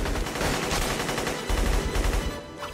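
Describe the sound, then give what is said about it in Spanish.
Rapid bursts of gunfire crack out repeatedly over a dense, loud action-movie soundscape with booming low rumble, the shots clustering in quick volleys with no speech. In this rooftop film scene, Neo and Trinity fight agents, and an agent fires several shots at Neo, who quickly dodges them. “Y aparece un agente. Voltea a Neo, le dispara varias veces a la gente y las esquiva rápidamente.”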